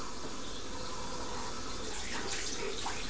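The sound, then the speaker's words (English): A child's toothbrush is rinsed under a running tap, the water pouring in a steady hiss that turns slightly more splashy and uneven toward the end, with no voices. “Oh, Daddy rinse it first. Clean it. Yes. You clean it. You clean it in the water.”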